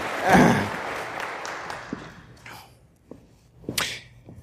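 An audience breaks into applause that starts with a loud burst, thins out over a couple of seconds, and trails off into a few scattered claps. No one speaks.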